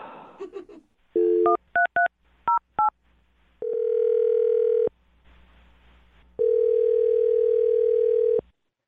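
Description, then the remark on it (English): A phone number is dialed to call a woman on the radio show Brooke and Jubal in the Morning: a quick run of touch-tone keypad beeps, clear, followed by two long, steady ringback tones separated by a short pause, with a brief murmur of voice at the very start. “All right, well, I'm going to dial her phone number and see if we can get her on the phone.”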